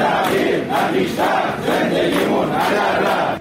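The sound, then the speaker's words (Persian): A large crowd of temporary-contract employees and workers of the Karun Oil Exploitation Company in Ahvaz shouts in unison in protest, rhythmic rising and falling chants repeating about every half second to second, loud and sustained throughout with no individual speech standing out. “اینجا در اهواز هم فریادهای کارکنان و کارگران قرارداد موقت شرکت بهره برداری نفت کارون.”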